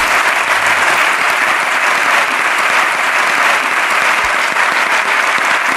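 Sustained applause from a large audience, loud and steady throughout, a dense wash of many hands clapping close by with no pauses or voices standing out.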